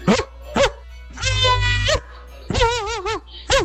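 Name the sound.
person imitating a dog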